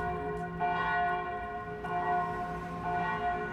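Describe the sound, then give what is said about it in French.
A church bell tolls slowly for a funeral, three evenly spaced strikes whose rich, humming overtones ring on and blend between each blow, with no voices present. “Cloche de l'église pour un enterrement.”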